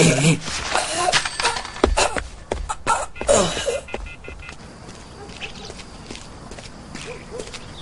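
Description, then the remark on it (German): A sick dog chokes on chicken and gags in harsh, irregular bursts of wheezing and retching for about four seconds, then the sound gives way to a quieter stretch of background noise. “Wow, der Hund ist aber krank.”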